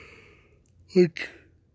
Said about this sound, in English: And I'm sorry for the yawning.